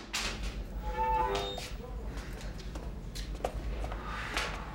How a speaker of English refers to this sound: Later, the spiv and the younger man he was with are in a cell. The door is unlocked and Fenton steps inside.